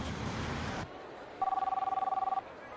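telephone call ringing

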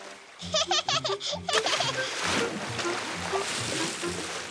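water splashing

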